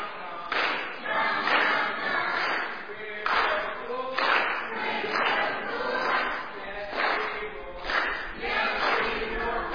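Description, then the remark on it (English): An audience applauds the orange team: a dense, steady wash of many hands clapping for about ten seconds, swelling in louder surges, with some cheering voices mixed in. “Orange team, give them a hand, give them a hand.”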